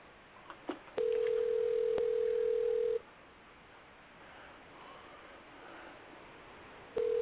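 A few faint clicks, then a phone line ringing: a steady, mid-pitched ringback tone holds for two seconds, falls silent for about four, then starts again. No one speaks.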